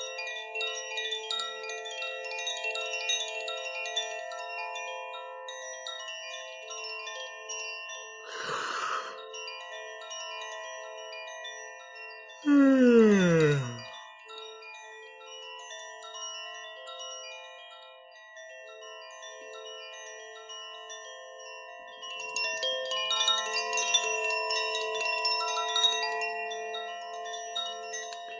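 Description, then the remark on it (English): A chime rings continuously, its layered metallic tones sustaining and overlapping, with a couple of brighter swells partway through. The sound stays steady and moderately soft, with no voices. “And again, I'll play this chime until I sense all the dark beings who've gone through voluntarily have gone.”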